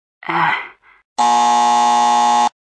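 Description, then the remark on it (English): A short vocal groan, then a loud, steady quiz buzzer, triggered by pressing a button on a phone, that drones for just over a second before cutting off abruptly. It's clear, with no talking. “To answer, they press any button on their phone and we'll hear a buzzer.”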